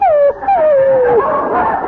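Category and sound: animal, dog whimpering and barking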